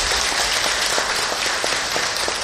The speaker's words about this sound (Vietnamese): Xin tất cả dành một tràng vỗ tay thật lớn để tán dương tinh thần chung.